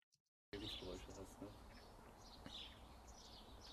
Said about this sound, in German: Ein anderes Beispiel, was wir auch mal gerade nutzen können, das ist von einem Videokurs, den wir aufgezeichnet haben, eine Außenaufnahme von mir. Da haben wir im Hintergrund so ein Grundrauschen, Vögel zwitschern und ähnliches.